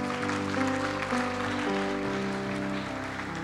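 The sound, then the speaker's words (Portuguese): A church audience applauds for Jesus in a steady, dense wash of clapping that fills the whole stretch, with sustained keyboard-like music droning underneath. “Naquele dia, pode aplaudir se é para Jesus.”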